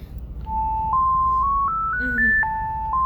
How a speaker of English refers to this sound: Somebody want to get that? Or are they going to get that back there? That's a very interesting phone ring.